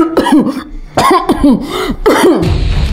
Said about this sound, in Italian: Anche tu stai per andare in guerra e sei colpito da un attacco di tosse?